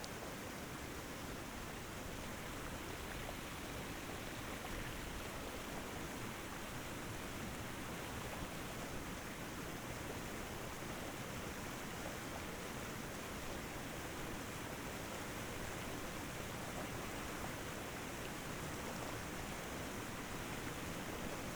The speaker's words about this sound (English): Torrents of water pound your back.